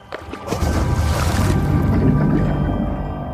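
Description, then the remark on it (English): A large, heavy wooden paddle slips from a dozing man's hand off a small outrigger boat into the water with a soft splash and sinks, followed by a steady, low watery wash and lapping that swells and lingers for a few seconds. No one speaks. “The paddle slips into the water.”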